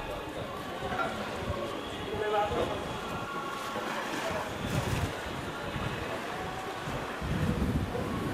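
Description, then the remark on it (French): Sea surf of the Gulf of Naples washes against rocks in a steady roar with occasional swelling surges, while a voice speaks over the water. “Fragments d'écueils et de ressac, la mer enfin, celle d'Homère, celle des dieux et celle des poètes.”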